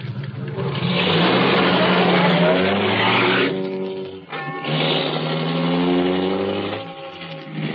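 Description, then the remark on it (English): A car engine revs up loudly as the car is driven back onto the road, climbing in pitch as it accelerates, drops briefly, then surges again with strong rising harmonics. No voices. “After I got the car back on the road again, I felt like a fool.”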